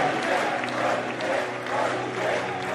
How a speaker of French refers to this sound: Il entre porté par les applaudissements des militants